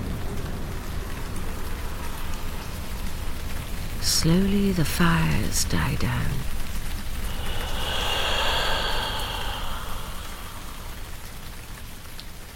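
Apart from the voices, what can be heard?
rain falling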